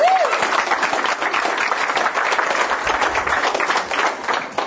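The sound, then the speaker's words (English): Steady audience applause welcoming a newly introduced speaker fills the whole stretch, a dense crackle of many hands clapping at once without letup, fairly loud throughout, with a brief rising tone or whistle right at the start. “So let's give a warm round of applause.”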